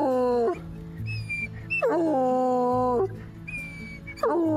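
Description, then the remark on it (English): A little dog named Maybe and a big old hound dog named Mr. Wendell whimpering and yipping out front of a house in East Nashville, several drawn-out high whines that slide downward in pitch, coming in three bursts with short yips between them. No one speaks. “She's out front to greet me, trailed by a little dog named Maybe and a big old hound dog named Mr.”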